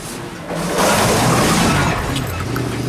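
A pest control truck rattles past, its engine rumbling and rising in loudness after a moment, then holding as a steady, noisy drone with no voices.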